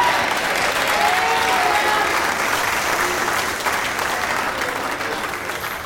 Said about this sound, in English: We praise him with the lifting of our hands, and we praise him with the shout, and we praise him with the clapping of our hands. In any biblical method that is available, we give our God praise.